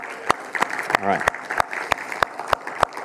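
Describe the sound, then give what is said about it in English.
An audience claps for community group leaders in a steady, sharp, even rhythm over a lively crowd murmur, with a brief rising whoop cutting through partway. “One more round of applause, community group leaders.”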